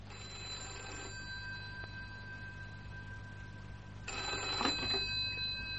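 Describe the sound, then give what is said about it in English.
An old-fashioned telephone bell rings in two bursts with a pause between them, a bright metallic jangle heard clearly over a low steady hum, with no one speaking. “Oh, what the devil do you mean by ringing me here?”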